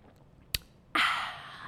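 A quiet sip of red blend wine: a brief sharp click, then a long airy slurp that slowly fades, with no talking.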